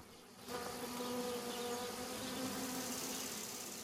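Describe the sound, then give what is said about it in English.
A steady, dense buzzing of many bees swarming around a hive as it is banged with wooden sticks to coax the queen upward, a continuous droning hum that starts abruptly and holds without pause, with no voices present. “Almost immediately after she's left the hive, a new queen bee will take over.”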